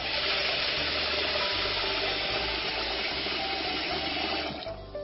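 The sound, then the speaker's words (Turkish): Steady running tap water pours continuously into a sink as rice is washed in it, a dense rushing splash that stays level for several seconds before easing slightly at the end, with no voices. “Önce pirinçlerimizi yıkayalım.”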